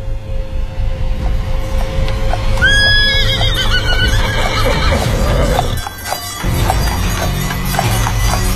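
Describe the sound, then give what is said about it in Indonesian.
A horse neighs loudly in a drawn-out, wavering whinny as its rider turns it around, followed by the rapid thudding of hooves as it gallops toward the listener, briefly fading before the pounding resumes. “Penunggang kuda tanpa kepala itu memutarkan kudanya dan dia berlari ke arahku.”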